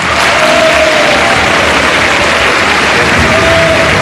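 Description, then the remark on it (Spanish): Loud, sustained applause from a large crowd in the Salón de Honor of the National Congress as President José Antonio Kast enters for his first presidential public address, dense clapping that continues without a break, with faint cheers rising now and then beneath it. “Escuchamos el aplauso del Salón de Honor a medida que el presidente de la República, José Antonio Kast, entra en su día 82 de mandato al Salón de Honor en la primera cuenta pública presidencial de su periodo.”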